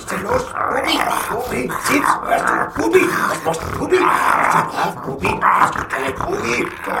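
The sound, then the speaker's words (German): A dog named Bubi growls and snarls in low, continuous rumbles while a person talks over the sound throughout, calling him to heel. “Bubi, Bubi, bei Fuß, bei Fuß, Bubi, bei Fuß.”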